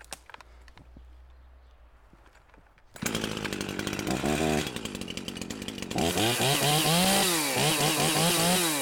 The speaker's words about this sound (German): So, und das ist jetzt, wir machen die Säge jetzt nochmal an und gucken, ob das Standgas vernünftig eingestellt ist.